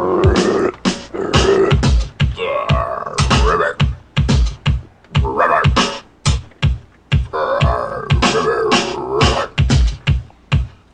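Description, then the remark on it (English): A person imitates a frog with a long run of loud, throaty croaks, repeated in a quick, uneven rhythm with short gaps between the raspy bursts. “You know how, could you make like a frog sound and shit?”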